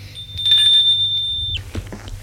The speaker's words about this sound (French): L'on entend la sonnette. Elle lui dit : ce doit être lui.